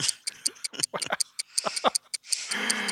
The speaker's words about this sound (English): Is that the doom clock I hear? I think that is the doom clock, thank goodness.